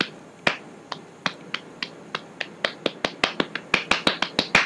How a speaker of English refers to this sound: Did you see that, General? 99. Paddleball. Made it to 99.